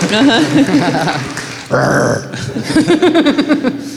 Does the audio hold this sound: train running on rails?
no